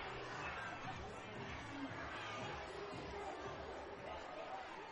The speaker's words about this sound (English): Student-filled crowd coming alive to the sound of the music.